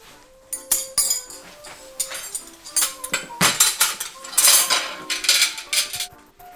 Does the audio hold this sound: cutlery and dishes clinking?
yes